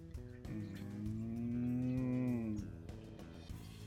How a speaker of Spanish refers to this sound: Exacto, mugido de vaca.